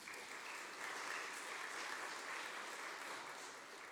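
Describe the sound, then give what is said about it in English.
A steady burst of applause from an audience at a worship service, thanking a speaker after her talk; many hands clapping in a dense, even wash of sound that holds at a fairly constant level for several seconds with no voices. “We're always a wee bit reticent about clapping, but if anybody wants to clap”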